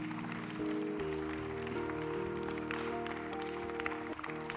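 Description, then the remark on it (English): An audience claps its hands in praise to Jesus in a steady, dense wash of applause, blended with sustained organ chords that hold and shift underneath throughout. “You can lift up a hand clap of praise to Jesus right now.”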